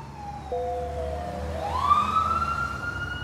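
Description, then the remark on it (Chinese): An ambulance siren, on an ambulance taking Chen Weilin to hospital in 2005, wails steadily, then sweeps upward into a higher, brighter tone that grows slightly louder as the ambulance comes roaring in. There is a low rumble of traffic underneath and no talking. “救护车呼啸而来，把陈伟林带回了好久没有拜访过的医院。”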